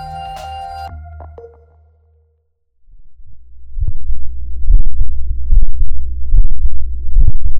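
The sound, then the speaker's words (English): A human heartbeat captured through a microphone made of fabric in the vest the person was wearing: muffled, deep thumps in a steady rhythm over a low rumble, following a brief fading tonal chime and a moment of silence. “This is a person's heartbeat. And it was recorded by their vest, like by their actual vest that they were wearing, using a microphone made out of fabric.”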